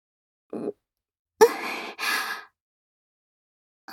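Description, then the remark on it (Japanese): Soft, airy breaths exhaled very close to the ear: a brief faint puff, then two longer breathy exhales in quick succession, intimate and near, with silence around them and no talking. “様の吐息が、はあ、耳にかかります。”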